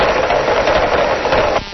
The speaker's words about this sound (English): It's chorusing of carpenter fish. What do you mean chorusing? That's a bunch of them. There's a bunch together? Of them, and they bang around together, and they happen to have this kind of.